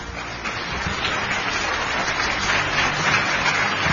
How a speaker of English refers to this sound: So, folks, I'm very proud to welcome tonight, and please help me give a round of applause for Tommy Newberry.